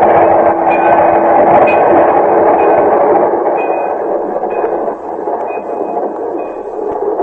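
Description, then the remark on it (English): A train thunders past, a loud continuous rumble and roar of wheels on rails with faint high squeals, easing slightly toward the end. No one speaks. “Margie, quick, here it comes, the train, look out”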